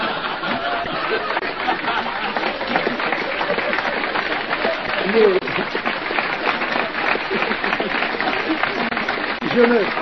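Sustained applause at a show in Bordeaux before a 20-minute interval, a dense steady wash of many hands clapping at an even loudness for the full length, with faint crowd murmur mixed in.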